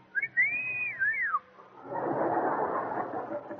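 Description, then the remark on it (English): A person whistles a double whistle meant for two girls at once, two quick swooping rise-and-fall notes run together, clear and fairly loud, then a wash of broad noise follows after a short pause. “But with my system, they can whistle at two girls at once like this.”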